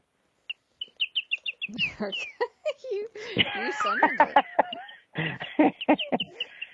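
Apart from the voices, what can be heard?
bird chirping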